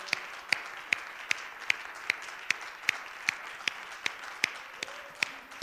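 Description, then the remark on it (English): A group claps hands together to praise the Lord after a prayer, in a steady, even rhythm, sharp unified claps about twice a second over a soft wash of crowd noise, with no one speaking. “Why don't you clap your hands, the Lord?”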